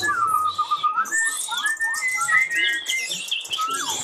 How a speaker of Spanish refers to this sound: Y oigan cómo cantan y conversan. Ah, porque los pájaros también tienen su lenguaje y se entienden unos con otros. ¿Los oyen?